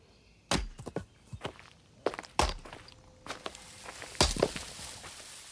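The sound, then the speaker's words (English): Sharp, hollow wooden thunks land at irregular intervals, with a few loud strikes and lighter knocks between them, as a man splits logs with an axe in the woods by a camp. No voices are heard. “Sounds like someone chopping wood.”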